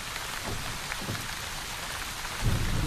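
Steady, dense rainfall hisses across the whole clip in cold weather, with a low rumble of thunder swelling near the end. No voices are heard.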